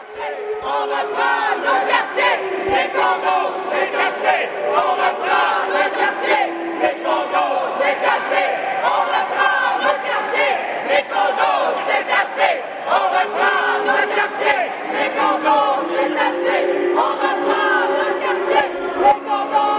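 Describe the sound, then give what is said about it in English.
Protesters from Paupir and CLAC Logement, concerned about the poor and working class, rising rents and a lack of affordable social housing, chant loudly and continuously, rhythmic shouted phrases rising and falling together with a steady, insistent cadence throughout. “In the following, you will hear different chants by members of Paupir as well as CLAC Logement, people concerned about the poor and the working class and the increased rents and lack of affordable social housing.”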